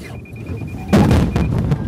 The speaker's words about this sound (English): Just before we crashed into that wall of cardboard boxes, an alarm went off. The onboard radar and a bevy of cameras lets you know if you're getting too close to obstacles.